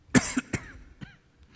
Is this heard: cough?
yes